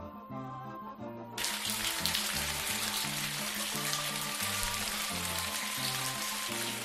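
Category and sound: nature, rain falling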